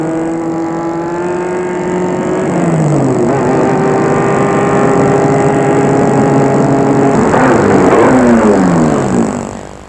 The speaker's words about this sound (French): va arrêter sa voiture dans une de ses rues.